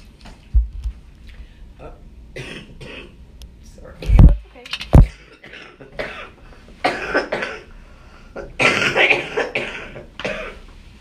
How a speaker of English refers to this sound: I was hoping I wasn't going to cough any.